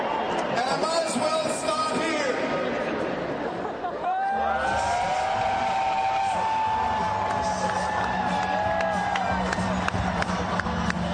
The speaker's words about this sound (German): Ja, und das Geschrei, was am Schluss zu hören war, das war eben weil eben genau dieser Einheizer,